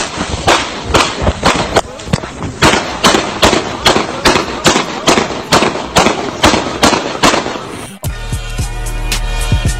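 A rapid string of loud, sharp handgun gunshots, roughly two dozen cracks fired in quick succession for about eight seconds, then cut off by a sustained, steady tonal sound.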